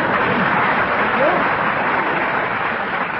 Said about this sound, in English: But let's not scatter it. Everyone applaud together, please.